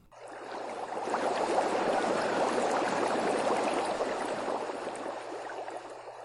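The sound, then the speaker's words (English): Steady, churning bubbling of water in a two-person hot tub above the Butterfield Park Water Tower in Elmhurst, a dense continuous fizz and gurgle that swells in within the first second and holds at a fairly loud, even level throughout, with no voices. “We're back here in the two-person hot tub above Butterfield Park Water Tower with our special guest,”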